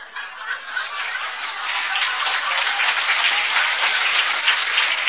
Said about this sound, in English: That isn't where you're supposed to applaud. That isn't where.